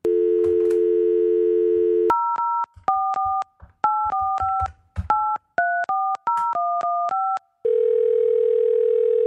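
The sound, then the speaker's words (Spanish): Placing a phone call to record a conversation: a steady telephone dial tone gives way to a quick run of about a dozen two-pitched keypad beeps, then a single steady low tone sounds as the call goes through. No voices. “Pero ya, vamos a llamarle ahora.”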